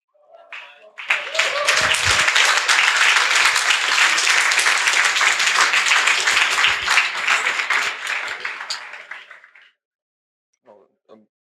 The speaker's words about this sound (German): Super. Ein Applaus für PyCash.